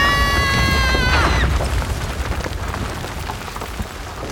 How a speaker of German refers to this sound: Das bewegt sich. Was? Jesus, das Haus, es stürzt ein. Weg da, schnell.